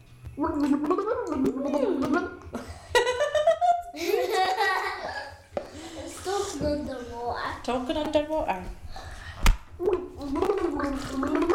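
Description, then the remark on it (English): Bubbles being blown in water by a child with their face put in the water, talking underwater, make a wobbly, gurgling burble, mixed with the child's voice humming through it and occasional giggles, steady throughout at a moderate level. “You blow bubbles in the water?”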